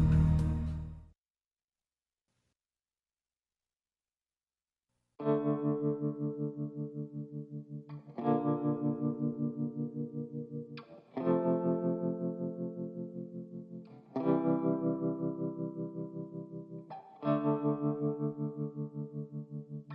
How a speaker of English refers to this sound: This is a catchy tune, man. I'm going to be humming this all day long. Hey, this is taking me through the weekend. This is getting me through the weekend, baby.